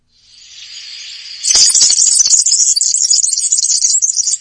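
A dense, high-pitched sizzling chatter of bird calls that sounds like something frying in a pan, starting faintly and swelling suddenly into a loud, crackling, continuous hiss.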